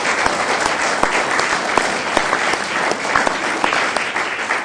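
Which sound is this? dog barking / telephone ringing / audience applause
audience applause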